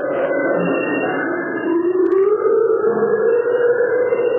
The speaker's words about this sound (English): Apparently, it was a Vietnamese fable telling the Viet Cong, you're going to die and your soul is going to walk the earth forever. And it was backed by these sort of creepy atonal sounds.